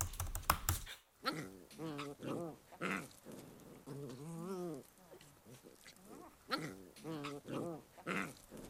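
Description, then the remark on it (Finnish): Sibling dogs of a pet dog whine and yelp in a run of high, wavering cries, pausing and starting again. A short harsh burst of noise comes right at the start. “Kuulostivatkohan sisarusten äänet tutuilta?”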